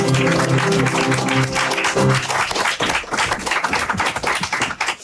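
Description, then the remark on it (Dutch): A crowd breaks into loud, sustained applause as a guest is introduced, dense clapping filling the space, with a held musical chord fading out underneath during the first two seconds. “Mag ik een heel groot applaus?”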